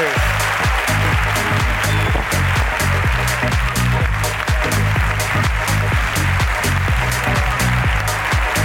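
Loud, sustained applause from a crowd, a dense wash of clapping that stays steady for about nine seconds, with low droning tones running underneath.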